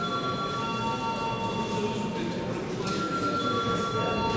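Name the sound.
parliament voting bell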